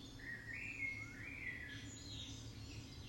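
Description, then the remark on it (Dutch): Birds sing and chirp outdoors in nature against a steady low rumble of ambient background noise, their thin warbling calls drifting fairly quietly. “Je kan nog eventjes doorwandelen en luisteren naar het geluid van de vogels en kijken naar de natuur om je heen.”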